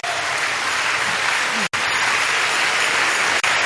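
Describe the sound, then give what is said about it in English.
A large crowd claps steadily and loudly in praise of God, a dense wash of many hands filling the space with continuous applause that hardly wavers. “Let's rejoice. Look at what God has done. This is the biggest miracle of all. Keep on clapping.”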